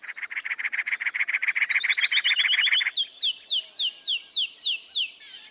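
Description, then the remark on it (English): A cactus wren's harsh, rapid chugging chatter runs for a few seconds, then a canyon wren's clear whistled notes follow in an evenly spaced series, fairly loud with no voices. “With cactus and canyon wrens, there's a clear sense of how the different habitats, cactus and stone, live in their songs.”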